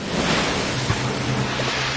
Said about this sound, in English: tossed by the waves, for the wind was contrary.